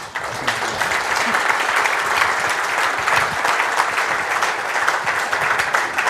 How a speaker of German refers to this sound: Erstmal natürlich ein Applaus.